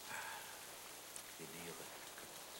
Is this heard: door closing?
no